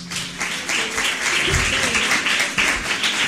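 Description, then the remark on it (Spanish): A crowd applauds steadily, a dense wash of many hands clapping, holding an even loudness throughout with faint voices mixed underneath. “Un aplauso para ellas, ¿no?”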